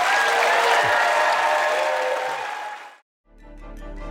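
Loud, dense audience applause at a TED Talk with many hands clapping at once, holding steady for about two and a half seconds before fading out abruptly, followed by a brief silence and faint music.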